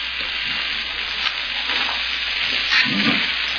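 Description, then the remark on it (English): Steady crackling sizzle of food frying in hot pure Nesson oil, a continuous hiss with scattered pops and a faint clatter of stirring, moderately loud, no voices. “She's frying the cat in pure Nesson oil.”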